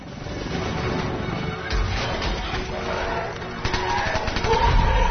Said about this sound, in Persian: ببین اینجا سرباز اسرائیلی چاره جز شلیک کرده، نمیدون دیگه باید شلیک کنه.